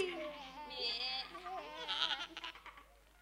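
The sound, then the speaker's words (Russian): Several goats on a meadow bleat together in wavering, quavering cries that overlap for about three seconds, moderately loud, with no talking. “А ты что ж молчишь, коза дереза?”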